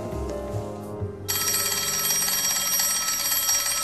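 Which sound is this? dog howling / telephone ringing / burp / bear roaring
telephone ringing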